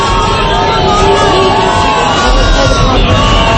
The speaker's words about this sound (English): She slowed it down by about an hour, and when she walked in, there was audible booing. I'm going to play you that.